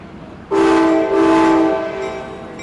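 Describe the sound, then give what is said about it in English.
An Amtrak passenger train's horn blares suddenly and loudly, holding a rich chord for over a second before easing off as the train rumbles along. No one speaks. “In February, Amtrak announced an ambitious expansion, which includes a luxury train that will do New York to Los Angeles in 60 hours.”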